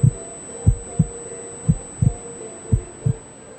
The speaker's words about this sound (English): All I could hear was a wash of white noise, my own tinnitus in my ears, and the sound of my heart hammering in my chest.